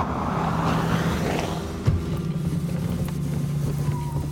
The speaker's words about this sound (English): Eventually, a car pulled up.